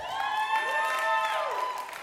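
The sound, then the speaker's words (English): An audience claps steadily to welcome a man invited up to share a testimony, while voices cheer and whoop over the top, with sustained high vocal tones above the patter of applause for about two seconds. “Can you all just welcome him? Give him a clap.”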